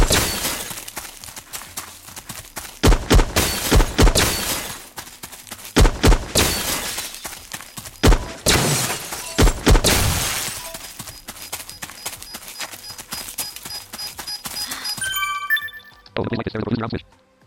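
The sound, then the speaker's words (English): Repeated sharp crashes of breaking glass ring out in bursts over several seconds, loud, with speech running beneath, ending in a short tonal electronic sound. “I can kill this glass.”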